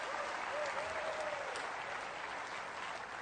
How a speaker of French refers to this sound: Oh, vous devriez applaudir plus fort.